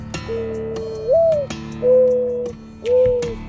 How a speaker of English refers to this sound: The mourning dove is the most ubiquitous game bird in Texas, and wildlife biologist Jay Robertson acquaints us with the species.